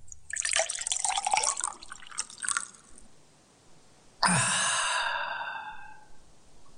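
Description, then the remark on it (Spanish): Splashing and gurgling of water poured into a glass for a few seconds, followed by a bright glassy clink that rings and fades slowly. “Un vaso con agua.”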